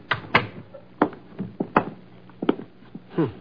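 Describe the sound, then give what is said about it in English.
Billy's unlocked door opens with a series of sharp clicks and knocks, a latch rattling and wood bumping in an uneven rhythm over a few seconds. “We can go right in. Billy never locks his door.”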